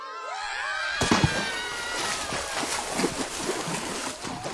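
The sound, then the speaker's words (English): A sudden loud splash, as an army of prunes falls into a river, breaks in after a second of high, wavering cries, followed by several seconds of churning, sloshing water with repeated smaller splashes. “But owing to headquarters they missed, one army fell in the river.”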